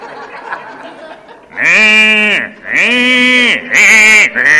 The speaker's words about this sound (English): I mean, cow can make noises I couldn't even imagine cows can make. But he is slowly graduating from milk, and he's eating grass and grain, and one day he won't need that milk anymore.